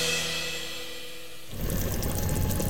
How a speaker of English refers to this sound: Well, that's the voices of the chili. It's bubbling away, man.